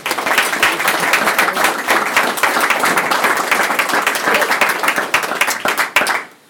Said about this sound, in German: Und ich darf Sie ganz herzlich bitten, ihn mit viel Applaus zu begrüßen.